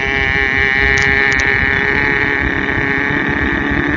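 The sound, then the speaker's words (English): A voice imitates the engine of a motorboat on a lake while someone skis, with a loud, steady, buzzing drone that holds for about four seconds, with no other talking. “This boat's coming and waves are coming”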